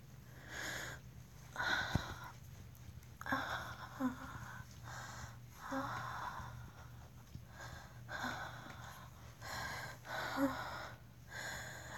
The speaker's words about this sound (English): And you're probably already feeling the effects now. Your chest aches. Breathing is a chore.